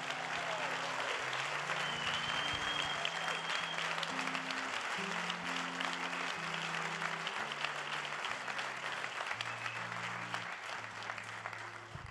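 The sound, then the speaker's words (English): A church audience claps steadily and loudly for about twelve seconds to recognize healthcare workers, a dense, continuous wash of applause, with sustained musical chords shifting in pitch underneath. “And now you can help me in applauding.”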